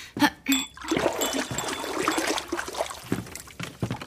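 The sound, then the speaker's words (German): Soft splashing and dribbling as fingers are moistened, dipping and swishing in a small bowl of water, with a couple of quick sharp splashes at the start and light trickling after. “befeuchte deine Finger etwas in der Wasserschale.”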